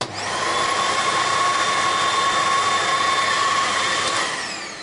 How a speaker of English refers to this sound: So I've got them in with a board on the back, and I'm going to put the vacuum cleaner nozzle into the bag and then hold the bag up tightly round with my hands so it seals it round the nozzle. I'll turn on the vacuum cleaner.